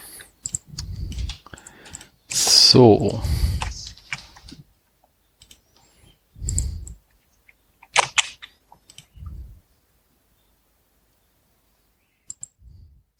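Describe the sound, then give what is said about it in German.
Crisp computer keyboard typing in short bursts with scattered mouse clicks, as someone enters a name into a field at the top of a data tool and clicks on hostnames, broken by a few louder thumps and rustles, and a brief spoken word near the start. “Das ist gerade ganz praktisch, wenn man zum Beispiel eine Tür Online da oben eingibt und dann auf Hostnamen klickt, dann kriege ich eine Übersicht der Hostnamen, die wir alle so von der Tür Online kennen.”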